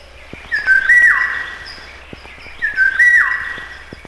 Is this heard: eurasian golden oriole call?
yes